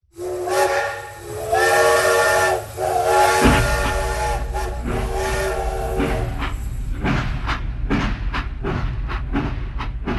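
A loud steam train whistle blows with stacked harmonic tones for a few seconds, then gives way to steady hissing steam and rhythmic chugging bursts, with no talking.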